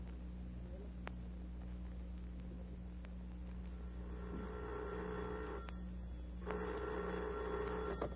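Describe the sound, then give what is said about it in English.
An old telephone bell rings in two long bursts with a short pause between them, a bright rattling trill over a steady low hum. “The telephone bell, the electric railroad.”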